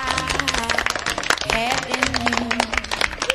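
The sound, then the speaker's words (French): A few people clap steadily in a dense patter of claps for about three seconds, with voices calling out and chattering over the applause, as the hosts applaud themselves at the end of their first radio broadcast on RTR 107FM. “La tradition, c'est de s'applaudir pour la première.”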